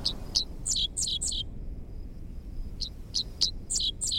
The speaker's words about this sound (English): Half insect, half sci-fi blaster, this song belongs to a bird called the Dixisle, whose name spells out the syllables of its quirky song.